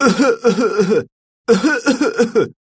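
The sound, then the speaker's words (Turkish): A person acts out a coughing fit: two loud, raspy voiced bursts, each about a second of choppy hacking, separated by a brief silence. “Ne zamandan beri öksürüyorsun böyle?”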